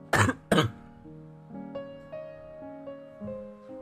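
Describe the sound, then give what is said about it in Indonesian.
Two sharp, loud coughs in quick succession from a person who has been coughing for several days, followed by soft, sustained melodic tones that shift in pitch with no talking. “Udah beberapa hari ini aku batuk-batuk tahu.”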